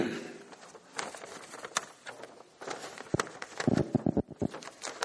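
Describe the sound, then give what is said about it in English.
Paper notes crinkle and rustle in a string of irregular, crisp bursts, some sharp snaps among softer scraping, at a moderate level with no voices. A preacher is handling sermon notes during a church service. “The crinkling of paper.”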